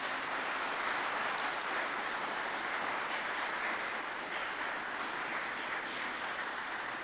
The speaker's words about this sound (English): And all these good people are going to loudly applaud.